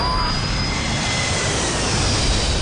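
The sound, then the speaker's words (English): A jet airliner's engines roar steadily and loudly as the plane pulls up, a dense rushing wall of noise with a thin high whine running through it and no letup. “there's another plane landing on 4 right. Across to 3-1 left. GSA 117, pull up.”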